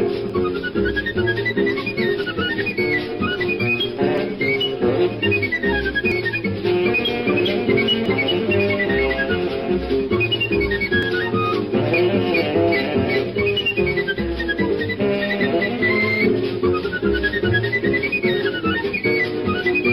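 Lively choro music plays steadily throughout, a bright flute melody darting through quick, ornamented runs over a dense bed of plucked accompaniment and bass, loud and continuous with no talking.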